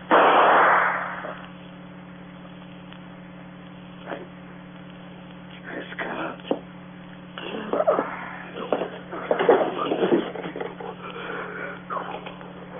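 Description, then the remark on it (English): A single loud gunshot from a gun taken from a drawer cracks out at the very start and fades quickly, followed by a stretch of quiet hum, then faint shuffling and breathy sniffing sounds. “I didn't mean to shoot him.”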